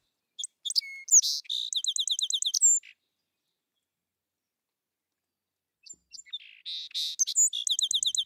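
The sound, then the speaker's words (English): A song sparrow sings two clear songs, each opening with a few sharp introductory notes and then a rapid, evenly repeated trill, separated by a few seconds of quiet. “song sparrows seem to actually sing a better song when they've been exposed to the poisons. They have a longer trill and a more consistent trill, which is something that the females seem to pay attention to.”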